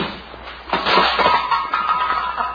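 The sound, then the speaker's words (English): A sudden crash as a loose car headlight falls off and breaks, with glass and metal clattering, followed by a couple of seconds of scattered tinkling as pieces settle. No one speaks. “So one of that loose headlight didn't fall off again.”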